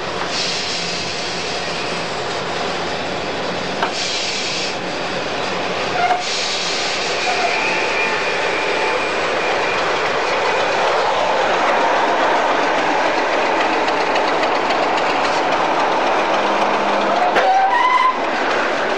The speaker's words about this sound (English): I'm just running into the diesel depot, Freightliner terminal now, and running onto my train. Shunter's calling me forward, and we're going to buffer it up onto the wagons in a minute.